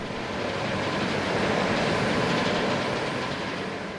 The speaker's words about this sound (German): Es tönt auch gerade anders hier auf der sauberen Seite. Vorher hat man vor allem die Wäschmaschine gehört, jetzt ist es der Tumbler, der surrt.